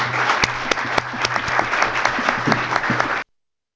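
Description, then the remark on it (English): A crowd claps steadily for about three seconds, a round of applause for all the speakers at an event, a dense wash of overlapping hand claps with sharp individual slaps poking through, then it cuts off abruptly into silence. “With this, I think we are going to give one round of applause for all the speakers, and then we'll come into...”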